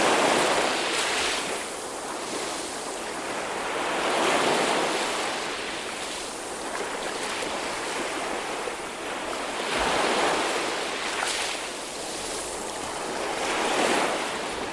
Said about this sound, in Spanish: Este Patxi es un sonido cíclico que va y que viene y nos podemos imaginar dónde estamos, más o menos. Pues estamos en el mar, sí señora. Concretamente en la orilla del Mediterráneo, en Vinaroz.